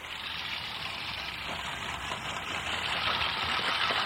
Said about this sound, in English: Well, I'm mowing my lawn, and you'll probably notice that I'm not using... notice I'm not using a power mower here. And I've got an old-fashioned lawnmower that's making a reappearance now